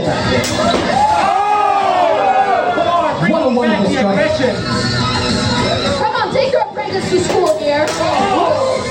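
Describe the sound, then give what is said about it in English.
A loud crowd cheers and heckles continuously for several seconds at a medieval sword-fighting event in Montreal, many voices overlapping in excited yelling as fighters in medieval regalia battle with swords and shields until tap out, with a few sharp smacks or thuds mixed into the din. “These well-attended events see people dressed head-to-toe in medieval regalia, brandishing swords and shields that they often forge themselves, fighting, no holds barred, until tap out, while a crowd cheers and heckles for more.”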